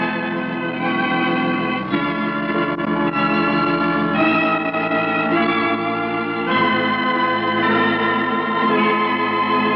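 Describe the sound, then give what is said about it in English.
Hospital chimes ring out a slow sequence of tones at 5 o'clock at Christmas, each change blending into a rich, continuous wash of sound with no talking. “I didn't know the hospital had chimes.”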